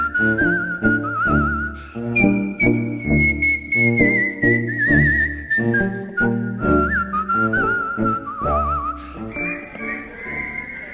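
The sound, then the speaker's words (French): Someone whistles a lively, wavering melody with vibrato, clear, over a steady rhythmic instrumental backing that plays throughout. “En ce qui concerne le sifflet ce soir, je fais le job.”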